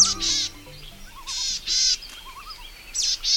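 Bright, buzzy birdsong in short high-pitched bursts repeats several times, interspersed with softer lower warbling notes, with a low sustained tone fading out at the start.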